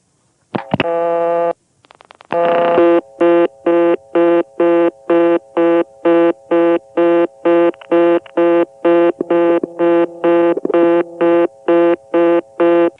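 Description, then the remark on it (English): A Bell postpay payphone line in Sperryville, Virginia: a steady dial tone, a quick burst of rotary dial pulses as the digit 5 is dialed, then the call cuts over to a loud, fast-repeating reorder tone beeping in rapid even on-off bursts until the end, with no voices. “Now I'll record the sound of dialing 5 and shooting over to reorder.”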